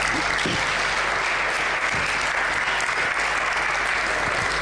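An audience claps steadily for several seconds, a dense, even wash of applause filling the room at a consistent loud level with no voices on top.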